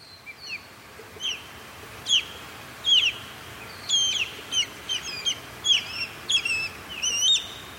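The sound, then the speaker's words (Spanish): An osprey calling: a series of about a dozen short, sharp, high-pitched whistled chirps in an uneven rhythm, moderately loud over a low background rumble. “Águila pescadora.”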